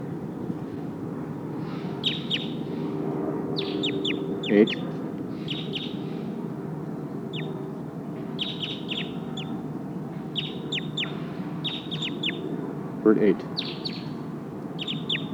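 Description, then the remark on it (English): Repeated high, thin calls of a Sitkensis bird in the trees ring out in short clusters every second or two, clear, over a steady low background rumble of wind or noise. “Oh, sounds like one of the Sitkensis birds is here in the trees.”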